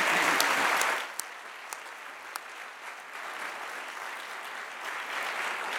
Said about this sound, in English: Welcome to Holden Village. Now we can all applaud together.